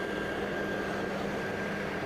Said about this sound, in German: Das klingt nach Laubbläser.